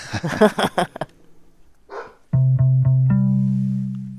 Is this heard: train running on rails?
no